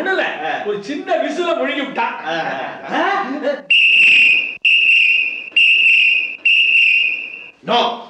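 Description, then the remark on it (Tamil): A person talks briefly, then a whistle is blown in a series of loud, shrill blasts, about five of them, evenly spaced. “இந்த உலகத்தில் விசில தான் முதல்ல வெறுக்கிறேன்.”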